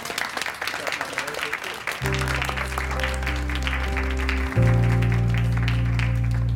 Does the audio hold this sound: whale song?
no